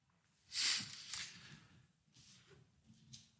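A fairly loud throat clearing: a rough, raspy burst followed by a shorter second rasp, then quiet breathy rumbling with no talking.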